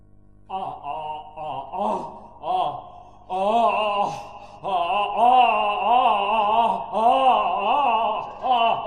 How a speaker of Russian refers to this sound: Постепенно расширяя. Расширяя сразу и мгновенно. Мгновенно одним зевком и захлопнуть рот.